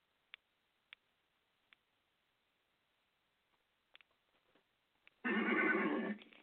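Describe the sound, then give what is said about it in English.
A few sharp, evenly spaced clicks like hooves tapping, then a loud horse whinny bursts out for about a second, rising and wavering before cutting off. “A horse is a horse, of course, of course.”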